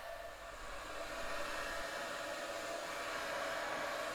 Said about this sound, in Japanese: このままドライヤーもするので座って待っていてください。ドライヤー当てますね。